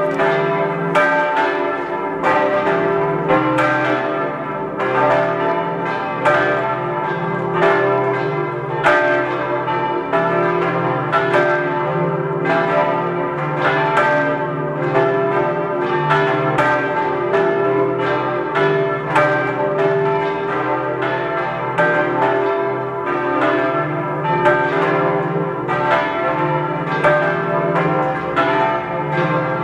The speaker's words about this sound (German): Es ist 12 Uhr. Sie hören die Glocken der Laurentiuskirche in Wattens in Tirol.